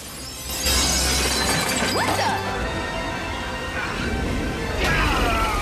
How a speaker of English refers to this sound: He flies into a window and through a family's living room.